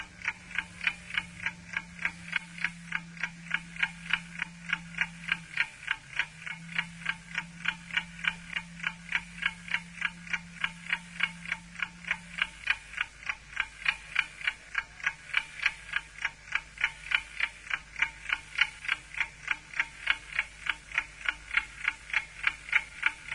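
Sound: clock ticking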